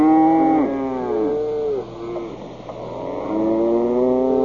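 cow mooing

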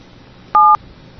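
telephone keypad touch-tone dialing

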